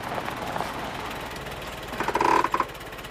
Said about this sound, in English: drives up in his car.